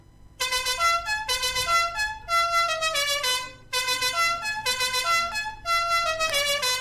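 A bright, buzzy musical goal-celebration horn honks out a repeated stepping tune in short, loud bursts, with brief gaps between phrases and no voices.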